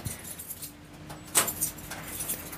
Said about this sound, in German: So, Schlüssel, Schlüssel.